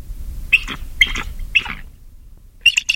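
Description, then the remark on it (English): A bald eagle's thin, high-pitched cackling call: a few squeaky chirping bursts spaced about half a second apart, then a quick stuttering run of notes, clear with no talking. “Unfortunately for the bald eagle, it has like a little cackling type of a laugh that's not really very impressive for the bird.”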